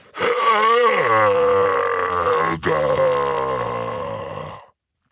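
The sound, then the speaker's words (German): A human voice imitates a giant's roar: one long, loud, guttural bellow lasting about four seconds, with a brief catch midway, then cutting off into silence. “Er bückte sich ein wenig, die Arme der Zentauren an ihren Bogen spannten sich, dann brüllte er.”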